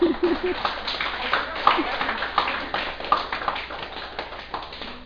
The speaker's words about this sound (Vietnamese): Vui chớ, mình nên vỗ cho một tràng pháo tay.